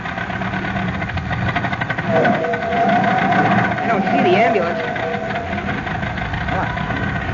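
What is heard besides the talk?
old car engine running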